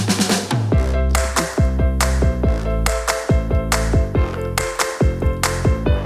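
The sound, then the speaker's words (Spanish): A short, punchy theme jingle plays loud and alone, with sharp percussive hits and bright sustained synth notes falling in pitch in a quick, driving rhythm. “que te cambias hasta la cara cuando suena ya esta sintonía.”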